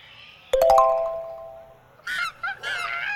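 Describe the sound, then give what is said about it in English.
A quick run of bright ringing chime notes fades out, then birds at a zoo call loudly, several harsh honking cries in an uneven burst. No one speaks. “We see the birds sing.”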